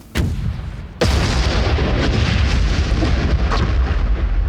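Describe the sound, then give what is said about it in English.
Ukrainian artillery fire on Russian troops hiding in a forest near a farm: two heavy booms, a short one and then a massive blast about a second later, followed by a sustained, loud rumbling roar with no voices. “"Hit them with artillery."”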